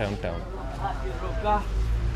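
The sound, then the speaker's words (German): A steady low rumble inside an electric bus in motion, fairly quiet, with a person talking over it throughout. “Die anderen Busse stoßen im Gegensatz zu den E-Bussen viel CO2 aus. Außerdem ist es hier angenehm leise.”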